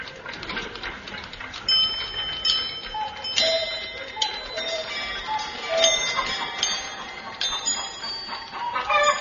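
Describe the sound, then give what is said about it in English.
Several clocks in a clock repairer's chime at staggered moments, their bell tones overlapping and ringing on, while a busy layer of ticking runs steadily underneath. No one speaks. “Meanwhile, in a sleeping England, and let's face it, England is asleep, I have surrounded the Cran Omnibus factory with two plainclothes detectives who are secreted in the ground floor attic of a nearby clock repairer's.”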